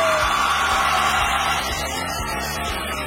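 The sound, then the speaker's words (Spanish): A loud, sustained burst of applause from the audience of the show Papelitos del Público in Asunción, Paraguay, dense and steady for about three seconds, mixed with crowd yelling and whoops. “Y más fuerte ese aplauso, más fuerte, porque esto es Papelitos del Público aquí en Paraguay.”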